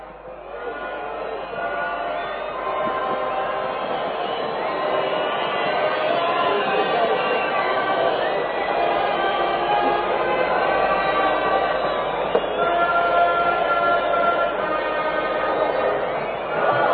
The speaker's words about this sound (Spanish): la interpretación del himno nacional de Israel, que casi de inmediato pasa a ser silbado por buena parte del público que esa noche fue al estadio.